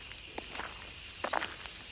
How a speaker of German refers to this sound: Während du durch die Reihen der Grabsteine gehst, hörst du das beruhigende Knirschen des Kiesels unter deinen Füßen.